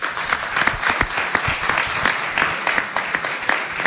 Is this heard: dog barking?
no